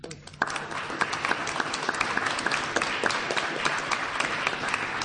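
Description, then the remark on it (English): An audience at an evening book celebration applauds the book's co-editors steadily for about five seconds, a dense, even patter of many hands clapping at a fairly loud, constant level after a brief quieter start. “deserve a hearty round of applause for their achievement.”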